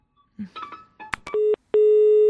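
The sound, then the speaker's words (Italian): A telephone line crackles and clicks, then gives two steady, fairly loud electronic tones, a short one followed by a longer one, as a listener's call in to a program fails to connect. “Sì, prendiamo un'altra telefonata.”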